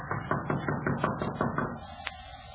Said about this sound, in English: I reckon it won't hurt nothing to tap on the door sort of generally.